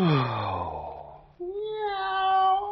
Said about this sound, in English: A cat talking to the moon.